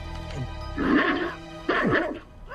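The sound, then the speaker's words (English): A dog lets out two short, high-pitched barks and yips, fairly loud, with a brief pause between them and no talking. “Wait, that's not my dog.”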